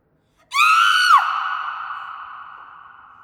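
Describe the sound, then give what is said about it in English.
A horrified mother lets out a single loud, high-pitched scream of horror that breaks off abruptly, then leaves a lingering, fading tone trailing away. “The mother was so horrified that she screamed.”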